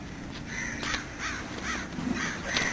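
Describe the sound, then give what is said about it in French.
Crows from large flocks of birds caw overhead in a loose series of about six harsh, raspy calls, fairly loud against a steady background hiss, with no one speaking. “Mais c'est vrai qu'il y a beaucoup de corbeaux.”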